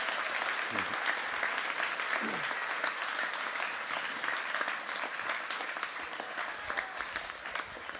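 A sustained round of applause from a crowd, dense steady clapping that stays loud throughout and eases only slightly toward the end, with no talking over it.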